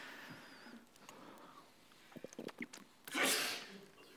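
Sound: sneeze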